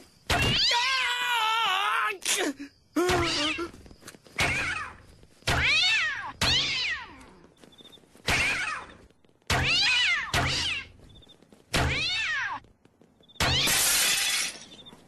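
Loud cat meows and yowls as cats are fired from a repeating cat launcher, about seven strained cries in a steady rapid rhythm, each cut short before the next begins, with no talking.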